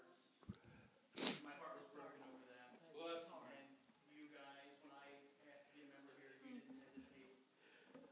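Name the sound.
sneeze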